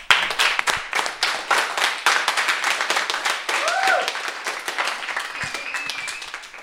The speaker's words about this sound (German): Das ist nicht selbstverständlich. Und das ist, glaube ich, ein Applaus wert von allen.